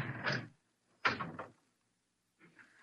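door being opened

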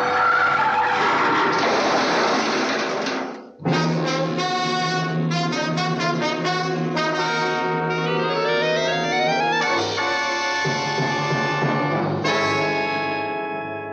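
car braking hard

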